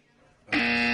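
A loud, harsh game show buzzer blares abruptly after a quiet moment and holds steady as a sustained, raspy tone until the end.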